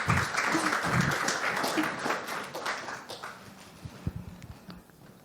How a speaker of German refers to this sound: Großen Applaus.